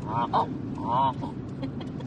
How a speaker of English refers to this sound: Well, that means a lot of geese. Look at them out there. See them? Yep. Let's go up there. Oh, look, there's geese.